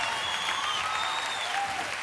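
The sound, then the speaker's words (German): Steady studio audience applause, a dense wash of clapping that holds at an even level for about two seconds with no voices standing out. “Wer ein bisschen genauer in den Studioapplaus hineinhört, wird die Ursache hören.”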